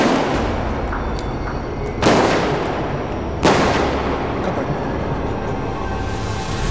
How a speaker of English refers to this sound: Whoever was there shot him in the chest.